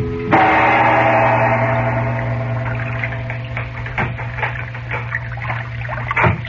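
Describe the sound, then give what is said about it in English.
Gentle water sloshes and laps against a sailboat showing no lights as it moves slowly up the dark Nile late at night, with soft irregular splashes over a steady low drone, no voices present. “Now, late that night, a sailboat showing no lights is moving slowly up the dark river.”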